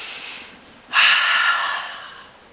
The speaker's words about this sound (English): Everyone, just take a very deep breath. Go.